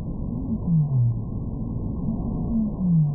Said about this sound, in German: Auch Hilde Norgstad und ihr Team haben auf diese Weise Walgesänge aufgenommen.